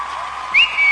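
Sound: audience applause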